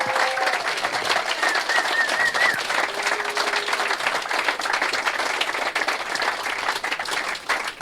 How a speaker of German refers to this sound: Aber trotzdem nochmal bitte einen großen Applaus für diese wunderbare Show, die ihr veranstaltet habt.